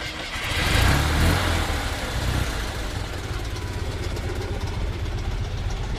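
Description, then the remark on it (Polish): The engine of a red, renovated Fiat 126p small car catches and briefly revs louder, then settles into a steady, rattly idle, with no voices. “Czy jak to się ładnie mówi, pali na dotyk.”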